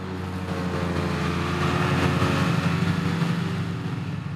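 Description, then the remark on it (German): A large tractor with a modern mower drives across meadows in the Dobertal in mid-July, harvesting hay. Its engine is a steady, low droning hum with a broad mechanical whir over it, continuous and with no voices. “Mitte Juli fährt ein großer Traktor mit modernem Mähwerk über die Wiesen im Dobertal.”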